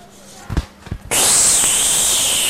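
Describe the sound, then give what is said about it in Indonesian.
Two dull thumps, then a sudden loud gunshot-like blast as a leg is shot, bursting in sharply and trailing off into a sustained, bright, harsh crackling hiss, like a game sound effect. “Kakinya ditembak, dor.”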